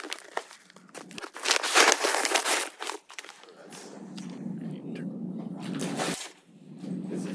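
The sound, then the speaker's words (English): An envelope holding a health coverage proposal from Alliant is cut open with scissors at a county commission meeting, giving a few seconds of crisp snipping and paper crinkling in quick bursts, followed by a steady, softer low murmur. “you have the scissors. You can announce who it is and the date and time stamp on that, if you would.”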